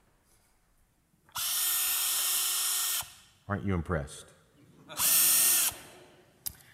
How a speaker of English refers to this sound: So I brought something to illustrate this. This is my cordless drill.